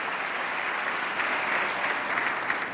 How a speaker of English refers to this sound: This is President Obama's State of the Union message from NPR News. Big Democratic applause here for extending unemployment benefits that the Congress let expire.